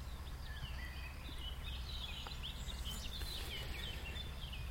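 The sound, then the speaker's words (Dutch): Faint, busy birdsong, many small chirps and twitters overlapping continuously above a low, steady outdoor rumble, with no one speaking. “Maar het is natuurlijk qua geluid, de geluidenstroom hier, met al die vogels en zo, is natuurlijk wel geinig, hè?”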